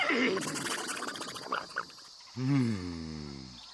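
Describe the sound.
A doctor imitates a horse's neigh, trying horse language to talk to an Indian man: a single wavering whinny that rises and then trails off in a shaky, descending quaver, fairly loud, after a brief burst of noisy vocal sounds.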